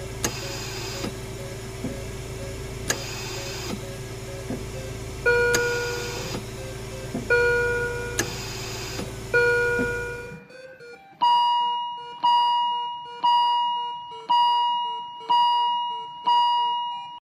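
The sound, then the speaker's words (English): Electronic beeps and alarm tones from intensive care monitors, first layered over a steady hum with repeating chimes, then a regular series of sharp, high-pitched beeps about once a second. “Perhaps you've had the unfortunate experience of being familiar with these sounds, sounds typically heard in an intensive care unit.”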